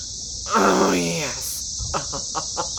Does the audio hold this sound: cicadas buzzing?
yes